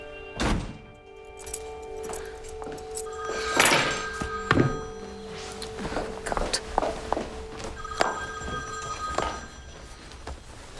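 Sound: front door opening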